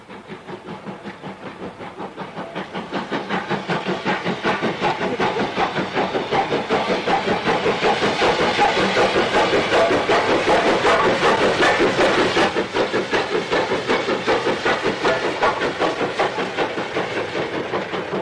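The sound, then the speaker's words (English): A Class B1 steam locomotive, number 61330, labours up the gradient at Dunfermline in Fife, its exhaust a loud, steady stream of rapid, rhythmic chuffs that swell in the first few seconds and then hold strong, with no voices. “It's a Class B1, 61330, and it's heading up the gradient at Dunfermline in Fife.”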